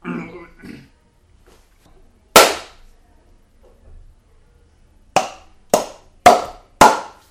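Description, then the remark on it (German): Brief talk opens, then one sharp, loud hand clap rings out alone. After a pause come four more crisp claps in a quick, slightly uneven rhythm. “So, wir haben noch nicht geklatscht.”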